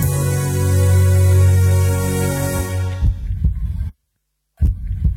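A sustained low humming drone gives way to deep, muffled heartbeat thumps, loud, then a brief moment of silence before another heavy beat returns. No one speaks.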